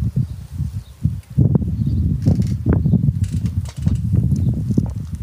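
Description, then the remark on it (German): Steady wind noise rushes and buffets, a continuous low rumble with gusty surges and faint rustling, and no voices. “Hört den Wind im Hintergrund, hört das Rauschen.”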